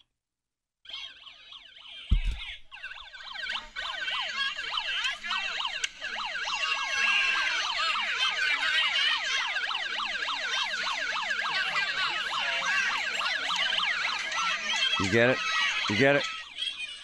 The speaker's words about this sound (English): Okay, that sound you hear, that's not a police siren. That's a megaphone from some idiotic protester. And I'll tell you why they're idiotic, if you say that's name-calling. They had that siren through a megaphone,